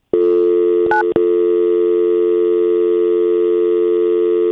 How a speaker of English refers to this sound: Connecting to the 911. Oh, freaking phone. See how it dialed 911? Because I had to hit 1 and it hit it twice, but I have to dial 9 for the extension.